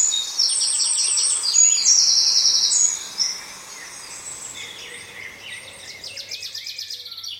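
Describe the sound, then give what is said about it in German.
A song thrush sings bright, rapid phrases, repeating each motif several times in quick succession, with wood pigeons and other birds calling in the background in an outdoor chorus and no one speaking. “Und das ist die, die ihre Motive so immer ein paar Mal hintereinander wiederholt. Und so das als Background die Ringeltauben.”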